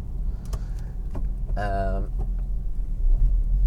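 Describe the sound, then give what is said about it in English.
Steady low road rumble inside a moving car out running errands, a constant deep drone throughout, with a short voice-like tonal sound rising briefly over it midway. “So we're out for a little bit of car therapy today.”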